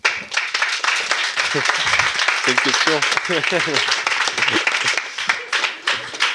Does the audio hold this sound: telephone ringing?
no